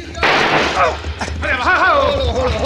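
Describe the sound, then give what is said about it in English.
A single loud gunshot cracks out and rings into a noisy roar, with a man's voice talking over the tail end. “Now, Benton, watch this shot.”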